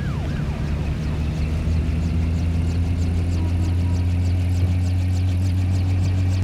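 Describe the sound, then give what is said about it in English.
A car engine rumbles steadily and fairly loud as a car drives down a road, a constant low hum with faint high chirping noise above it, holding even throughout without any speech. “As a car drives down the last road, all the roads around us are bathed in a blue glow.”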